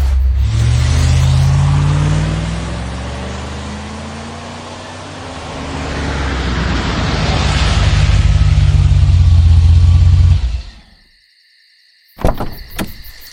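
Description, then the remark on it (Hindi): A car engine revs up loudly as the vehicle pulls away, pitch rising and falling through gear changes for about ten seconds, then cuts off abruptly, followed by a brief clatter. “गाड़ी बढ़ा।”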